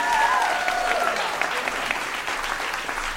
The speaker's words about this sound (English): Let's have another nice round of applause